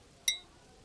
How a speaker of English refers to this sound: I'm gonna clink my coffee cup up against yours. Cheers.